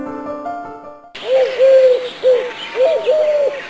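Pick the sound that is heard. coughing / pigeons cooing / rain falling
pigeons cooing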